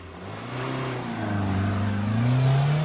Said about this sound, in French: car au moment où nous quittons la crèche du consul dans sa cime K8, j'aperçois une bagnole qui décolle du trottoir et se met dans notre sillage.